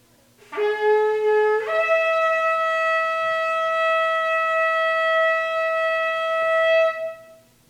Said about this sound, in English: And at the 7th time, when the priest had blown the shofar, Joshua said to the people, "Shout, for the Lord has given you the city.